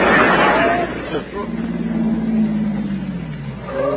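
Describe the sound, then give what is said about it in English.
A car approaches with a steady, low engine drone that holds for a couple of seconds and then dips slightly in pitch, following a burst of rushing noise at the start. It is a car that has been following the speaker for an hour. “Here comes that same car again.”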